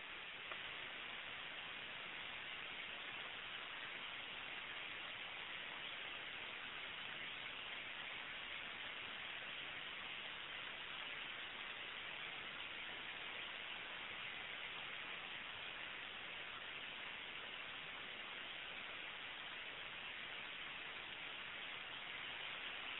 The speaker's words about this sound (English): Okay, I stopped at 45 seconds. Going to turn off the power on the white noise.